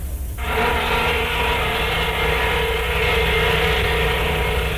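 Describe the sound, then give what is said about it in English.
The Gilman paper mill whistle in St. Mary's, Georgia, blows, starting abruptly and holding one loud, unbroken blast with a hissing, roaring edge over a few steady tones. No voices are heard. “But the whistle of the Gilman paper mill quickly shatters the illusion.”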